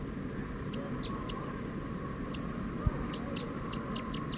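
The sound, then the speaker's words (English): A wild bird calls in a quick series of short, high chirps, bunched irregularly and then coming faster, over a steady low hum with one brief thump. “Decoy, the wild bird's going pretty fast now.”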